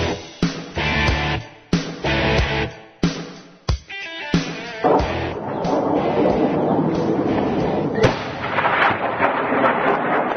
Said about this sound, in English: Sounds from a new barrage of Hezbollah rockets as they were intercepted over northern Israel today. Explosions can be heard as plumes of smoke trailed over buildings, air raid sirens ringing out.